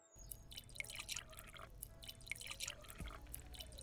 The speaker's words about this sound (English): Let's see what we have. Wine, juice, or water? Good choice. I'll pour everyone some.